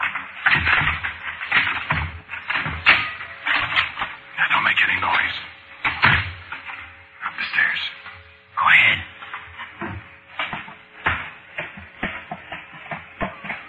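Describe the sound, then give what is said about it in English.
A door being opened, with repeated rattling, knocking and latch clicks in irregular bursts, fairly loud, all through a muffled, narrow-sounding recording. “Come on, open the door.”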